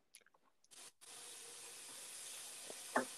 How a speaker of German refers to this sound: Also, okay, warte, ich muss kurz Wasser aufmachen, anmachen.